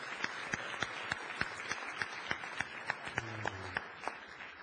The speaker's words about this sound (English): Moms, happy Moms Day. Give our moms a big round of applause.